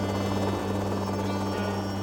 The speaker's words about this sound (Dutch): Hij had gedroomd dat hij strijkers hoorde in vier helikopters. Maar ze speelden helemaal synchroon en hij hoorde op de aarde die klank.